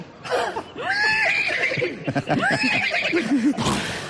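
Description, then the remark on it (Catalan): A horse whinnies loudly in one long, shrill neigh that rises and falls, breaks into a quavering, trembling tail, and ends with a short breathy burst. “I se fa més ruïdo que el cavall quan realitza.”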